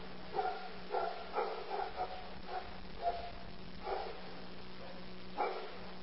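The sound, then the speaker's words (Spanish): Dogs bark angrily as someone new comes in, in a ragged series of short, sharp yaps, about nine over several seconds, against a steady low electrical hum. “Se nos enojaron los perros.”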